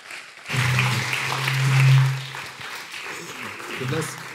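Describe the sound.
An audience claps steadily in a sustained burst of applause, a dense patter of many hands that swells in the middle and continues to the end, with some voices mixed in.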